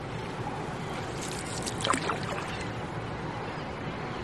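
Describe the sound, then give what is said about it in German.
Oars row a small boat through calm, mirror-smooth water in a fine drizzle by docks and warehouses on the shore. A soft splash and swish rises about halfway through over a steady wash of background noise, with no voices. “Wenn wir aufhören zu rudern, liegt das Wasser gleich wieder spiegelglatt da.”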